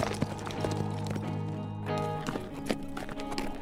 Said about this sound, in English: He dropped his rifle and clung to the saddle horn for all he was worth as the gelding galloped away from the booming guns.